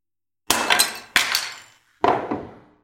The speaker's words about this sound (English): And broke the clay pots.